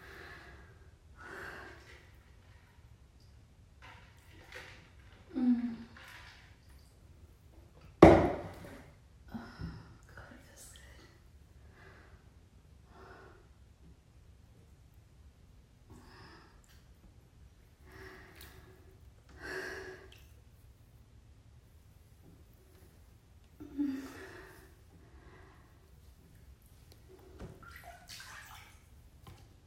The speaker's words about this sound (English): I pour it into my hands and then cup it on my body and rub it all over myself.